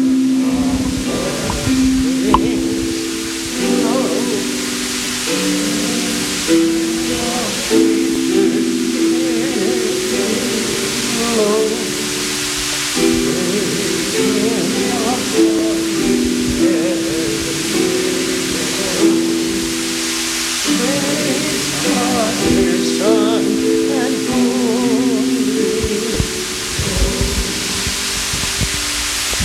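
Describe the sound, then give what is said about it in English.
An audience sings the doxology hymn during a service, many voices moving slowly in steady, sustained notes at an even volume throughout, with no breaks or spoken words. “Our service continues as we sing the doxology, please.”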